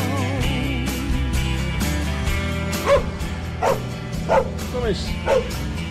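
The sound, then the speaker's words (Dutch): A small dog in Wijtemansland, Netherlands, lets out a quick series of about five sharp, high yips and barks over a steady busy background with voices murmuring underneath. “Kijk eens, hier is nog een hondje.”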